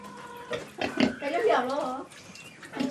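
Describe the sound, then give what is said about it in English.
Pigs on Hainan Island, southern China, being fed unsold bananas, grunt and oink in a quick run of snorting, squealing bursts, fairly loud, with brief pauses between calls. “So in some cases, they're feeding them to the pigs.”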